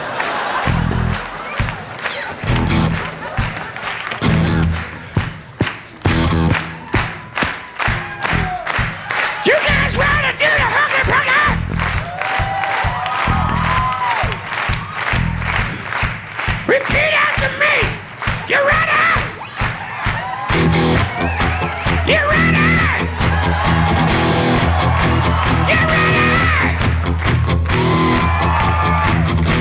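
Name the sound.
crowd cheering and yelling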